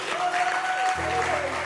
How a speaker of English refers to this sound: Stand to your feet and let's welcome our preacher. Oh, make some noise! Clap your hands for Jesus.